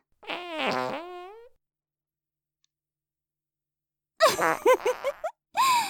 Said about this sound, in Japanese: さあ、観念して嗅ぎなさい。臭い臭いおならで、心も体も満たすのよ。